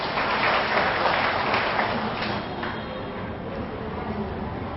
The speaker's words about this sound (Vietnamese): Xin cho một tràng vỗ tay thật lớn.